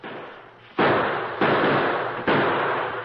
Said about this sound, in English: To continue our story, the addition of Kit Carson's musket to the Lone Ranger's well-placed gunfire soon had a telling effect.